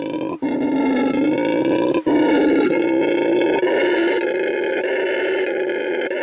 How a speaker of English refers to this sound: This is the noise that this monkey makes. It's called a howler monkey. And it's actually called the red howler monkey.